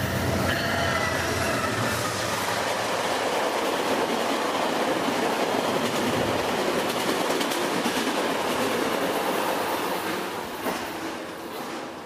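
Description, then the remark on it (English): A Via Rail passenger train roars past at speed at Eglinton GO station, a loud continuous rush of rail noise with faint wheel squeals, holding steady for about ten seconds before starting to ease off. “Oh, hang on while the Via Rail shoots by.”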